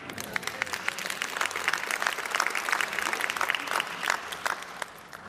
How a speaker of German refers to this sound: Applaus.